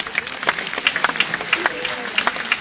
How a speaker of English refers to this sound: give the Nigerian church a clap offering.